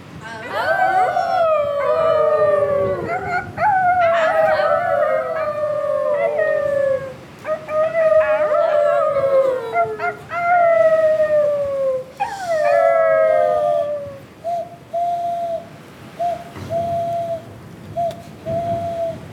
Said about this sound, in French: Ils croyaient n'entendre de tous côtés que des hurlements de loups qui venaient à eux pour les manger.